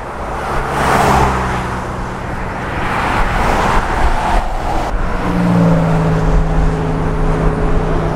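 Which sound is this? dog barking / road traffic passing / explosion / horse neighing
road traffic passing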